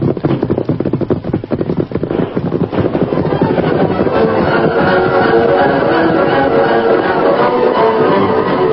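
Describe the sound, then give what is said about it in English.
Scattered, sharp gunshots crack at night over a rough, rumbling horseback gallop as the Lone Ranger and Tonto are chased by pursuing riders, clustered in the first few seconds before the chase settles into a dense, steady drumming of hooves and noise. “The Lone Ranger and Tonto kept far enough ahead to be fairly safe from the scattered gunshots.”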